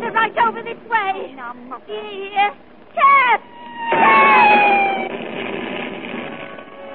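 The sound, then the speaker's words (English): A cat meows repeatedly in short, rising and falling bursts, several in quick succession, before a louder, steady rushing noise with faint tonal lines takes over for the rest. “I don't like this cat, and it's no use pretending I do.”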